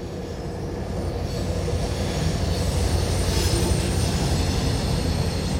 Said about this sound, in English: It's a passenger train, and it's northbound, and that's all I need.